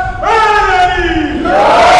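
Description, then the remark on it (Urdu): A large crowd shouts a religious slogan in unison, raising their hands in response to a speaker's call, a loud sustained roar of many voices with a rising then falling pitch, lasting about two seconds with no solo speech. “اتنے بڑے نعرے پہ اتنا چھوٹا سا جواب, اور آپ نعرہ بلند کریں, ہاتھوں کو بلند کر کے جواب دیں.”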